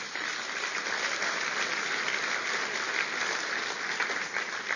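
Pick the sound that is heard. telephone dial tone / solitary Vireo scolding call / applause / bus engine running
applause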